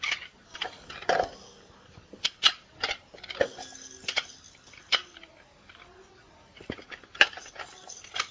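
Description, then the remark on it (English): Toy keys from a child's toy set jingle and clink as they are handled, a scattered run of sharp metallic taps and rattles over several seconds, with no voices. “Here are some keys.”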